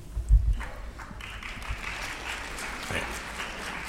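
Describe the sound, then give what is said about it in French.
An audience applauds steadily, a dense wash of many hands clapping at an even level for several seconds, with a few louder low thumps at the start. “Vous applaudissez avant que j'aie donné la réponse.”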